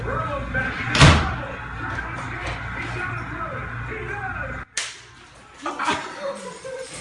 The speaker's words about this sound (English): He is busting up everything in that apartment. Really? Right then when you hear that initial glass break, that's right, and you hear Mike Tirico from Monday Night Football, that's the final sack.